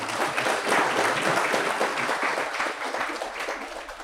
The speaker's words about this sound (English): So with that said, please give a big round of applause to Dr. Robert Murphy.